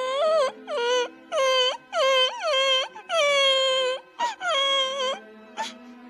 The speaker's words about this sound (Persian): پسرک یه دفعه زد زیر گریه.